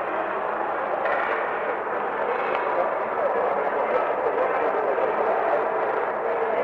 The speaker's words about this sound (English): Let's wait for Grandma's plane to go. And then maybe, maybe we can wait a little bit. Do you think it's going to go fast? Yeah.